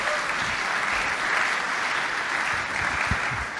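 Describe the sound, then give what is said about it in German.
Steady applause from a group of people, a dense wash of clapping that holds at an even, fairly loud level for a few seconds with no talking over it. It is a brief round of applause for Germany's women sprinters winning the first gold medal in Glasgow. “Kann man mal kurz, Zwischenapplaus, kurz bitte.”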